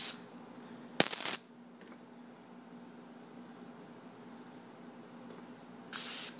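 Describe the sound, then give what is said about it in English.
Short hissing bursts of cooking spray from an aerosol can onto a pan: one brief spray near the start and another toward the end, with a steady low hum in between and no talking. “Okay, now I'm going to spray the top of the pan.”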